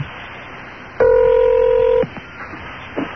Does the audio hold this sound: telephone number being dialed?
yes